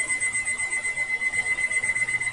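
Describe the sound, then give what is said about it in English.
A 13-year-old alarm clock rings alone with a steady, high-pitched electronic tone that pulses in a rapid, even rhythm throughout, moderately loud. “a 13-year-old alarm clock.”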